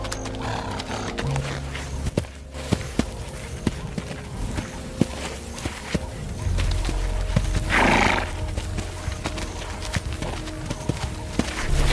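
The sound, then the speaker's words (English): A herd of zebras in the Kalahari sets off on migration in the dry season, trotting over dry ground, hooves thudding in an uneven rhythm, while one animal lets out a loud, rising bray-like whinny near the middle; no one speaks. “For these zebra, it's time to leave.”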